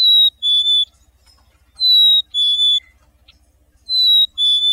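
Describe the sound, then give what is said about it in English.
A chickadee's clear, high two-note whistled song, the first note slightly higher than the second, repeated three times at steady intervals with short pauses between, over a faint low hum. “But the fact that chickadees do so often answer the song back and forth when a person imitates the whistle indicates that there may be some elements of territoriality to it.”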